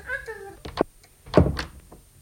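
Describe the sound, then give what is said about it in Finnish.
A door is pushed shut: a couple of light knocks and rattles, then a heavy thud as it closes, with a brief voice-like tone just before. “No niin, sulje ovi.”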